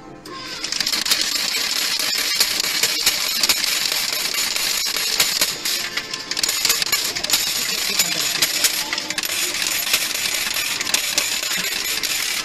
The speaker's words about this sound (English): Wow, those coins just keep dropping. That's great.